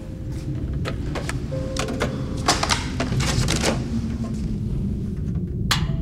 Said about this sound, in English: He tidies the room, putting empty sandwich packs into the waste paper basket he's clutching. As he tidies the desks, he studies the whiteboards.